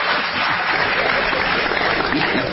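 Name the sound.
audience applause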